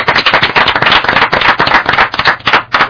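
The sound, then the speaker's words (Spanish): A crowd breaks into steady, loud applause for a guest, many hands clapping in a dense, crackling patter that holds for the full few seconds with no voices over it. “Oye, este aplauso que te vamos a pegar es para ti, ¿vale?”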